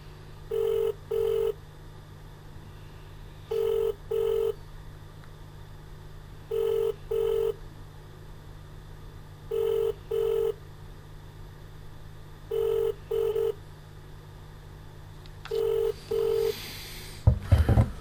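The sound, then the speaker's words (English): A telephone ringback tone repeats its double ring six times at steady intervals with nobody answering, over a faint low hum, ending in a brief burst of line noise. “Back to 6 minutes already and they won't pick up the phone.”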